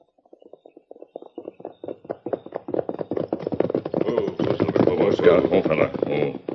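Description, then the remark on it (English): Rhythmic hoofbeats of a band of riders' horses breaking into a gallop and riding away, starting as sparse, light clops and quickly building into a loud, dense, rumbling drumming of many hooves. “Get your horses, boys. We're ready to ride.”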